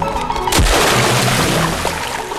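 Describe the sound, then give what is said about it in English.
A single heavy splash as a fisherman is knocked off a footbridge into a stream, followed by a couple of seconds of churning, sloshing water. Loud, with no voices. “Ray follows and knocks the angler into the water.”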